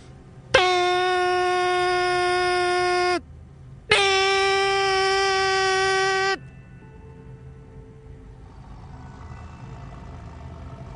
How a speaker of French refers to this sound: Allez, je prends la petite statuette et je vais souffler dans mon sifflet magique.